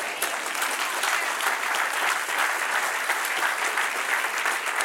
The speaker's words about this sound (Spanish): Dele un aplauso al que reina.